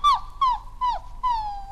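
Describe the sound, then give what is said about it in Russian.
A voice from inside a wardrobe imitates a frightened mongrel dog's whimpering: four short, high, falling whines in quick succession, the last one drawn out a little longer, fairly loud with no talking. “А, вы испугались, почтенная собака?”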